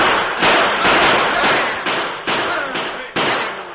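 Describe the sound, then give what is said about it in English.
A loud volley of gunfire at the first of several heavy wagons rounding a bend in a canyon by moonlight: several sharp, booming shots fired in irregular succession, each leaving a rolling, echoing tail that blends into the next. “It was met by a volley of gunfire.”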